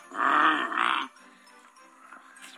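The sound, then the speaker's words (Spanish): A person vocally imitates a powerful, revving gasoline car engine with two loud, rough, roaring bursts in quick succession, followed by quiet background. “Y yo me imagino que está ahí el pesebre y se oye de pronto un unos como acelerones de coche, ¿no?”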